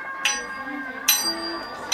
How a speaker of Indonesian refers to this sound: Nah, lonceng sudah berbunyi. Ayo, segera masuk.